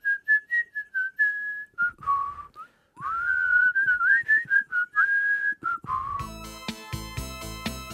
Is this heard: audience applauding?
no